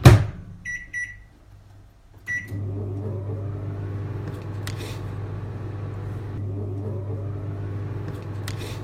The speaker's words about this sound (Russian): Я начну с масла, поставлю его в микроволновку секунд на 30, может быть минуту, оно точно успеет растопиться, и мы его легко смешаем с сахаром.